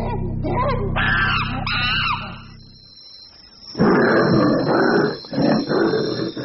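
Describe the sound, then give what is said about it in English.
A big cat snarls and growls, then lets out several loud, harsh roaring bursts in quick succession, with no talking. “Strange to think how a few hundred years ago the tiger had come so close to extinction, but that all changed when the prison service decided to put them to proper commercial use and trained them as security tigers.”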